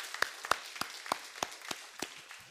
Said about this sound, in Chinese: 把一切的颂赞荣耀都归给我们的神，阿们吗？我们拍手赞美神。